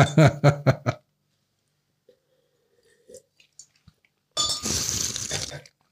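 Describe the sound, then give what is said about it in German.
Glasses of overly warm white wine clink together in a toast in a studio at 38 degrees, several quick, bright taps, followed by a quiet pause and then a short stretch of soft rustling, sipping noise. “So wie wir jetzt hier in diesem Studio bei 38 Grad mit einem viel zu warmen Weißwein. Prost.”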